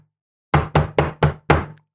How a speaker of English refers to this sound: that when Donald Trump was giving his pseudo concession speech, that wasn't really a concession speech, that each time he tapped on the desk, he was like doing Morse code.